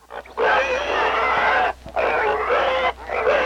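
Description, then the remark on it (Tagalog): A pig squeals loudly in three long, shrill bursts, each lasting about a second, separated by brief pauses, with no talking. “Inguyod ang rayna ang baboy nga naguli nga durong iwik igpulos lang nang ig maburing.”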